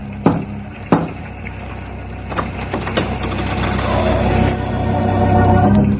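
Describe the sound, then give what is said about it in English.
Two heavy, sharp thuds of a heavy brass door knocker striking the oak panel of a house door, lifted by someone on the porch, about half a second apart, then a fainter knock, all over a steady rushing background noise that swells toward the end. “But I was standing on the porch, and I did lift the heavy brass knocker. And I heard the thud echoing back as it struck the oak panel.”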